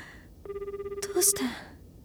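A telephone rings unanswered with a rapid, warbling electronic trill lasting about a second, clear, ending in a brief burst of noise before the line goes quiet.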